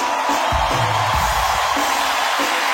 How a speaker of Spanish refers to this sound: Señores, pido un fuerte aplauso porque esto es Tengo Algo Que Decirse.